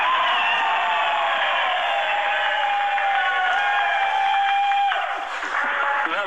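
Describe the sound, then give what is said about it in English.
A large crowd at a Suffolk Radio competition event lets out a big, sustained cheer with shouts and whoops, loud and steady for about six seconds before easing slightly near the end. “We just need a big, big cheer again now.”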